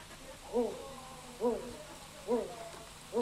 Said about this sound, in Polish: Może którąś jeszcze sowę? Puszczyk mszarny.